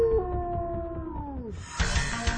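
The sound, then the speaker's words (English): A single long wolf howl with a steady tone that slowly drops in pitch, fading out after about a second and a half, followed by a burst of broad hissing noise. “One howl tells other wolves to meet at a specified location, and another howl warns that you're entering into a new territory.”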